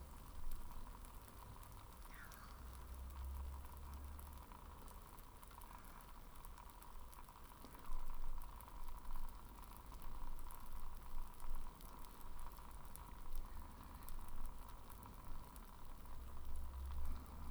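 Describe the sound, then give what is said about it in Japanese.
Foam bubbles pop and crackle continuously in a dense, fizzing texture, a steady soft hiss broken by tiny irregular snaps, with no voices over it. “パチパチ、泡がはじけて、不思議。”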